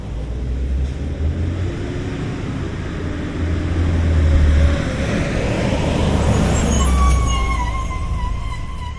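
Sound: bus driving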